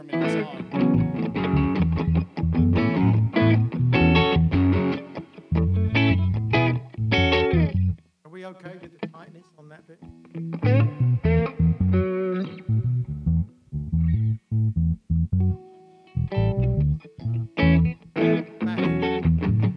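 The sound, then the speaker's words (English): A loud, heavily distorted electric guitar plays chunky, rhythmic chords and riffs. It briefly thins out into sparser, sustained notes midway before driving chords return. “Actually, you guys should be as close to the same distortion as possible.”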